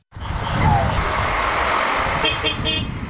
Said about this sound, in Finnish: Bussit hurisivat lähtövalmiina torstaina Istanbulissa, kun kymmenet ihmiset hyvästelivät toisensa. Kohta alkaisi matka Syyrian rajalle.